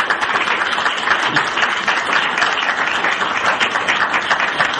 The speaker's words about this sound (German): Das klingt nach zustimmendem Applaus.